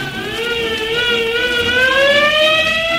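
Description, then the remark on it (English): A fire engine siren wails steadily as the engine heads to a fire on the roof of a tall building, its loud tone sliding slowly upward in pitch and holding strong throughout, with no voices over it. “So Alakazippity-clang, I turned myself into a fire engine!”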